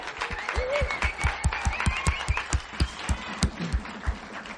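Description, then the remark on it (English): A group of people clapping steadily to thank the hosts who housed and fed them, a dense run of sharp, rhythmic hand claps over a murmur of voices, moderately loud throughout. “Yes, Oxygen Lifers, let's give them all a clap and a...”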